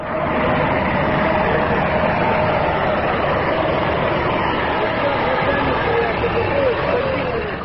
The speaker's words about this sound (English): An armored car rumbles up to the Chechen border.